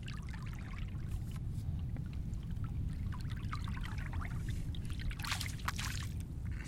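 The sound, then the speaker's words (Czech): Water waves slosh and splash continuously in steady, rolling surges that grow bigger, with scattered bright splashes over a dense low churn, moderately loud, with no voices. “Teď se dělají pomalu větší vlny.”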